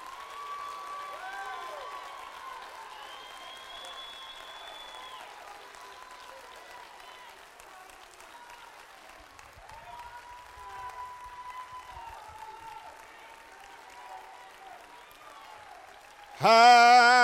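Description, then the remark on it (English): An audience stands and applauds God steadily for over fifteen seconds one morning, dense clapping with scattered cheers and voices mixed in, before a loud voice suddenly rises over it at the very end. “Somebody, stand to your feet and give God an applause this morning and thank Him for His grace.”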